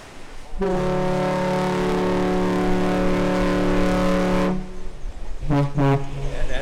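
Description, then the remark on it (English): A car ferry's deep horn sounds one long, loud blast for about four seconds, then two short toots follow in quick succession as a salute, with a faint rumble of wind and engine underneath. The ferry is beginning its round trip across the lake between Manitowoc and Ludington, Michigan. “Two toots like that, that's a salute to us.”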